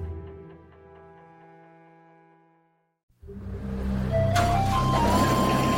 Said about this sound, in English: That is the blower that is moving the air through the system